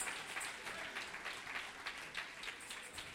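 audience clapping hands

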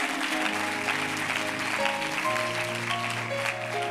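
audience clapping hands

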